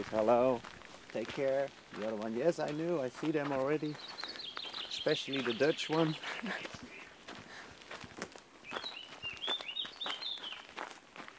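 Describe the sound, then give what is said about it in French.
Small songbirds in a garden on the Azores trade high, thin chirping calls in short bursts, back and forth, while a person talks over the first half. “Vous entendez les dialogues entre les oiseaux ?”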